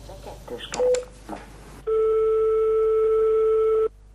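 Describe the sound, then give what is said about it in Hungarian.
A telephone call to a Hungarian bank's customer service line rings: after a few clicks, muffled voices and a short beep, a single loud, steady, mid-pitched ringing tone holds for about two seconds, then cuts off. “Név nélkül hívtunk fel ma több bankot is, ügyfélként a végtörlesztés iránt érdeklődtünk.”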